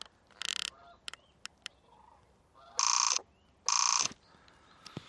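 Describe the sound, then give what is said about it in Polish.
Cranes in a flock call in flight at sunset over an island holding 231 cranes, young and old, loud rolling trumpet-like bursts, three of them, with short sharp clicks and faint chatter between and no one speaking. “231 żurawi jest na tej wyspie.”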